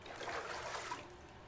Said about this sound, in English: The doggy stylist turns on the water faucet, and water splashes into the bathtub. Then the doggy stylist lifts Tango into the tub.